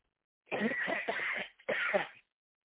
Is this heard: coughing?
yes